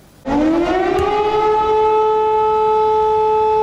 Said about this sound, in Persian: صدای آژیر خطر در دونتسک در شرق اوکراین، منطقه‌ای که حالا تحولاتش به شدت زیر نظر است.